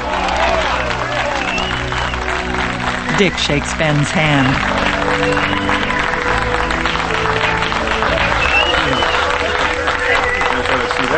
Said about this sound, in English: Now, outside the mill, workers on a raised scaffolding cover the Atlas Steel sign with one that reads Cameron Steel. Below, a dozen workers applaud.